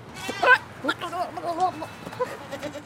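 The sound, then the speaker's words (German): Goats, black-and-white or brown with long curved horns, including some young ones, standing next to sheep, bleat: a loud, wavering cry at the start, then several softer, shorter bleats and murmurs trailing off over a few seconds. “Neben den Schafen stehen die Ziegen.”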